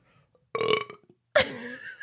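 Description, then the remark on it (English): Two wet burps in quick succession, the first short and bubbly, the second longer and gurgly with a squishy, throaty quality, loud, with no talking. “it sounds like you're like your stomach is inching up into your esophagus. It's very squishy.”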